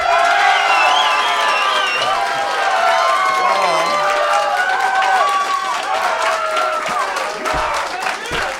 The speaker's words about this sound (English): and then the crowd will applaud?